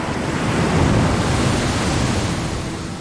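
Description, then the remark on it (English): Steady roar of ocean surf breaking on a beach in Loango National Park, a broad wash of crashing water that swells slightly and then eases, fairly loud with no voices. “He heads straight for the surf.”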